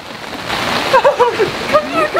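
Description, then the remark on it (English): Steady, dense hiss of heavy rain pouring down, fairly loud throughout, with brief high-pitched vocal sounds rising and falling over it. “Oh my god, it's pouring in! You can hear it!”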